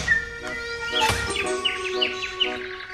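Small birds, common sparrows in a poplar tree, chirp busily, with repeated short tweets overlapping and a steady hum of background sound underneath.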